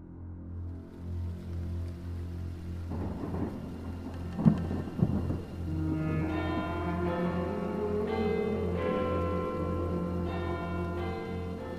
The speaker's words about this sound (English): The date was 14th of November, 1864. It was a dull, rainy day